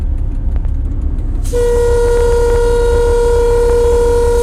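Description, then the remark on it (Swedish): A loud, sustained train horn blast sounds suddenly over a low rumbling engine as the train signals on approaching a viaduct it passes under, continuing steadily to the end, its tone holding a firm, unwavering pitch. “Ja, nu var det signal här för att det är en viadukt.”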